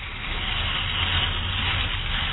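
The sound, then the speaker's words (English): Water sprays steadily through wet fur, rinsing out shampoo, a continuous hissing, sizzling rush like frying eggs that holds an even loudness from start to finish with no voices. “Now he's rinsing again. That's what I like to hear. Almost sounds like frying eggs.”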